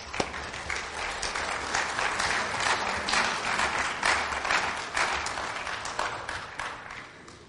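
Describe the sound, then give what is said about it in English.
An audience in a church applauds steadily for several seconds, a dense wash of many hands clapping at once, sustained before tapering slightly at the end. “Big clap for all of these.”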